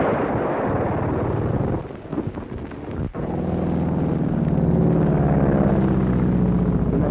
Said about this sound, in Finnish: Sarjan juuri tässä kohti konekiväärillä. Miehet riensivät nopeasti kirkolle suojien ympäriltä, niin minä en kerennyt muuta kuin pistää, kun tämä ampuva juuri meidän radioautoamme kohti.